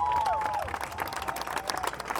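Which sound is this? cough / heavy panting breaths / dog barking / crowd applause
crowd applause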